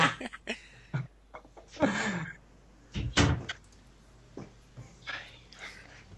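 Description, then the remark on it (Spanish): A door is pulled and shut: some handling and rustling, then a firm thump as it closes, followed by a few lighter clicks and knocks. No one speaks. “Espera, que cierro la puerta.”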